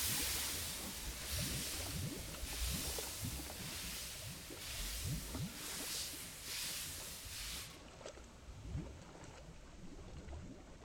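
A super steam engine starts and the Uminari undersea bullet express train departs on its maiden run amid a dense rushing, watery hiss, with rhythmic chuffing bursts pulsing steadily through the rumble. It is loud, with no voices.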